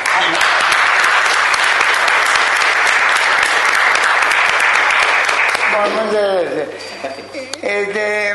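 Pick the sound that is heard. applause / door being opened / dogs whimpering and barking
applause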